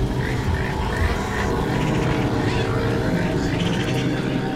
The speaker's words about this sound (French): Et ce qu'on entend, c'est les animaux vivants qui arrivent sur place, d'où la présence assez importante de mouches, qui est là aussi attestée.